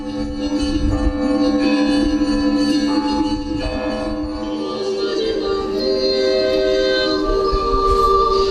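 Church bells of the Russian Orthodox Gorny Convent near Jerusalem ring steadily and loudly on a Saturday, calling worshippers to the liturgy, their overlapping tones blending into a continuous resonant wash of sound with no pauses and no voices.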